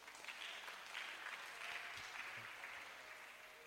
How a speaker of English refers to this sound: Oh, am I speaking to somebody here? Clap for Jesus.